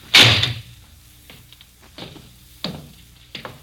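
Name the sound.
door opening and closing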